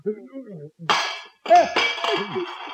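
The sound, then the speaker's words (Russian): A voice speaks briefly, then a glass of tea, dropped by hands unable to hold it, smashes with a bright, noisy crash, followed by a second shattering burst with a short ringing tone and scattered clinks as talking resumes. “Ничего страшного, друзья мои, разбился стакан, невелика потеря.”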